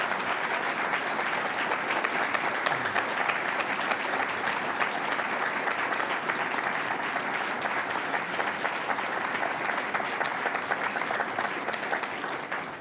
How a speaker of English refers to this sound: This is a terrific studio audience. You've held your applause. Let's give a big round of applause to both of our candidates.